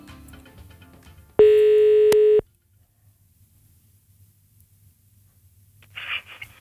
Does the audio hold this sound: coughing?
no